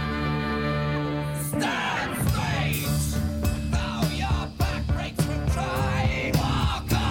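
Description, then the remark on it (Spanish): A loud, dense rock song plays with a shouted, doubled lead vocal over distorted guitars and pounding drums, continuous and full throughout with no talking over it. “Lo grita todo el tema. Se duplica la voz, pero viste que por momentos molesta, porque es como que...”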